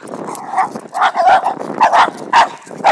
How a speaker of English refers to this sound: Here we go. Some of the niceties of walking the dog. My dog likes to bark and chase. I should be able to train that out of her, right?